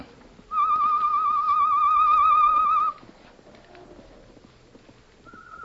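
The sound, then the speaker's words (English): Tonto gives a loud, wavering whistle imitating a bird call as a signal for a couple of seconds, followed by quiet shuffling and then a brief, fainter answering whistle in reply. “Sound the bird call, Tonto.”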